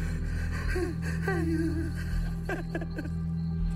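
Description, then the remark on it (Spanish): A woman cries and wails in drawn-out, wavering sobs broken by sharp gasping breaths over a steady low background hum. She is crying for help at night among canals near a house. “Ya estaba yo dormido cuando me despertó un llanto, un lamento.”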